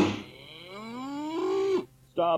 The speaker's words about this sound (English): What the hell is that supposed to be? It's just a cow, man, so don't have one, eh?